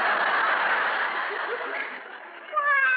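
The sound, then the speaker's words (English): A breathy, hissing stretch gives way to a short, tonal cat meow right at the end, fairly clear over a thin, old-recording quality. “And take that cat with you.”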